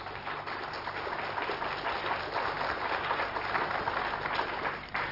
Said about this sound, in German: Der Beifall wird ein klein bisschen dünner. Ich weiß auch warum.